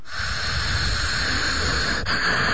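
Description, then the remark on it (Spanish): A steady, airy hiss of breath drawn through a narrowed throat, breathing with the larynx: a deep inhale and a slow-motion exhale, held long and even for a couple of seconds with a brief break near the end, with no talking. “Bueno, respiras así con este ruido, inhalas bien profundo y exhalas a cámara lenta.”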